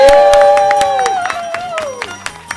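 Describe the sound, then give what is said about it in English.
A crowd claps and cheers loudly as George Gray, the voice of The Price is Right, is introduced to play a game called The Price is Wrong, with sharp, rapid clap bursts and high, sustained whoops that glide in pitch, the noise gradually thinning out toward the end. “And the crowd goes wild.”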